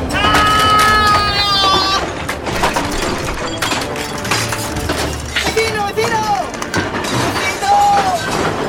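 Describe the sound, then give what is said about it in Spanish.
Loud, continuous cracking, splintering and crashing of wood as a house gives way and collapses in a storm with strong wind, with voices crying out over the din at a few moments. “Y ¡la casa se va a caer!”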